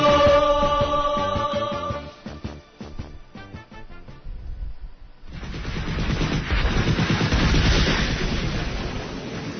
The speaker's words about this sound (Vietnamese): Ba người lính thám sát nhìn về phía tây, hàng loạt tiếng nổ đinh tai nhức óc ở hướng con lộ đá nơi đóng quân của tiểu đoàn K5